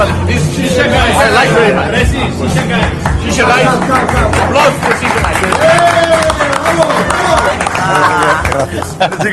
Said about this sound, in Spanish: Estaba aplaudiendo ahí el chico de la shisha.